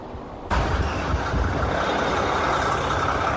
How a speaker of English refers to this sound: So what you ultimately see is trucks parking on the side of the road like you see here, whether they're closer to their destinations or not, but just parking on the sides of the roads.